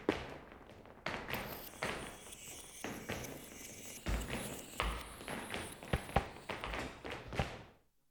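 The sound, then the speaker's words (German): A steady series of footsteps thumps along in a rhythmic pattern, each step a sharp knock, as people tread up or down stairs. No voices are heard. “Sie begannen selbst Schrittrhythmen zu erzeugen.”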